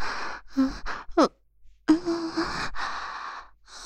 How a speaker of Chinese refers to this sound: 小坏蛋，这样对着阿姨喘气，是在诱惑我吗？